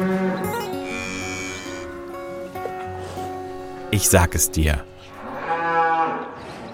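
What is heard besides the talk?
cow mooing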